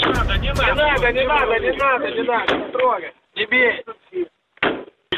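Men shout loudly over heavy blows and crashing thuds as Cossacks smash a priest's car to take the church keys from him, in the settlement of Perevalne near a military unit, then the shouting continues in short, broken bursts with brief pauses between.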